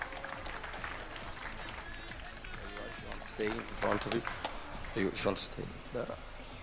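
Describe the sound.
An audience at a talk about hacking NFC toys applauds special guests on stage: a steady, dense patter of many hands clapping throughout, with voices talking over it during the second half.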